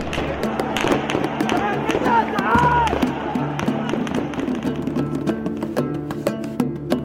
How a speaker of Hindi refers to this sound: लेकिन सरकारी मोर्चे पर ना उम्मीद होने के बाद इराक के नौजवानों ने सड़कों पर उतरने का फैसला किया। जवाब में मिली सुरक्षा बलों की बंदूक से निकली गोलियां